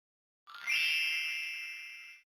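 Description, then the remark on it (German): A single bright, ringing alarm tone from an alarm clock at 6:30 in the morning rises quickly, then holds steady for nearly two seconds before cutting off. It is clear, with no voices. “Es ist 6.30 Uhr morgens. Der Wecker klingelt.”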